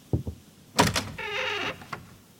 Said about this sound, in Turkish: Bu sözler sonrası derin bir sessizlik oldu. Akabinde ayak sesleri. Ardından kapı açıldı.